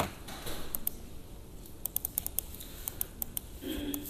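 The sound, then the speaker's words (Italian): A computer mouse being moved and clicked: a series of sharp clicks in irregular bursts, with soft sliding and a brief scraping rub near the end, no voices. “Adesso volevo portarlo un po' più in qua, ma il mouse non mi assiste, vediamo.”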